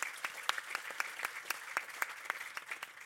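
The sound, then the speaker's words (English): The audience of a conference session gives themselves a round of applause: a steady wash of many hands clapping, with sharper individual claps standing out at a quick, irregular rhythm, moderately loud and with no voices over it. “So how about giving yourselves a round of applause for coming out to this session today?”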